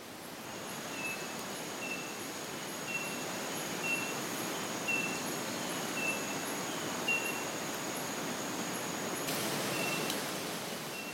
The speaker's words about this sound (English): he responded and said, that's a speckled mourner